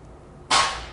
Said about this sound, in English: Why don't you shut the door? Yeah. Someone's banging on the metal out there. You shut it tightly.